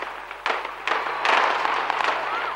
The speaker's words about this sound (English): But this time, a different kind of explosion echoed through the skies over Amritsar.